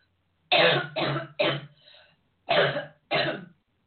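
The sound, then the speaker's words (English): A loud burst of three quick coughs, a brief raspy breath, then two more coughs after a short pause, with no talking around them. “Hang on a second. I just need to cough.”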